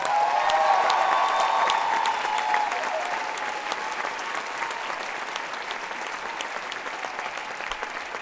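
A concert audience applauds steadily, a dense wash of clapping that starts strong and gradually settles slightly softer over about eight seconds, with a few whoops mixed in early.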